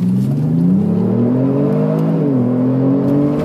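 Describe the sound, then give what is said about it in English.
A deep chroma blue car with an automatic gearbox revs hard as it accelerates, its pitch climbing steadily, dipping briefly at a gear change, then rising again. Loud, with no voices. “It is blindingly quick.”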